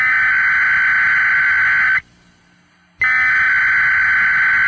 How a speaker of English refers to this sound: This is a test of the Washington, D.C. Metropolitan Operational Area Emergency Alert System. In the event of an emergency, this system would bring you important information.